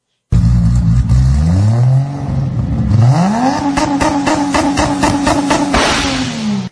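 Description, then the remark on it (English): A combustion car engine revs hard, climbing in pitch twice, then holding a loud, high-rpm snarl with a throbbing rhythm before cutting off. “for those of you guys that are making electric cars, can you just work out a way to make them sound...”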